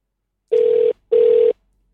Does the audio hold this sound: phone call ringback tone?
yes